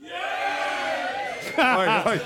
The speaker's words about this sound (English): Should we do a little straw poll? You up for a straw poll? Should we have a little cheer for... Let's have a cheer for Wales.